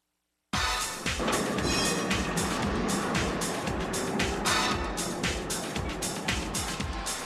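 subway train running

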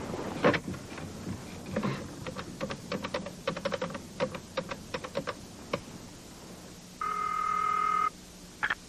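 telephone ringing

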